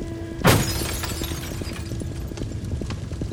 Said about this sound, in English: You know, we meshed the window out, broke all the glass out, and one of those guys pulled this guy out of his car.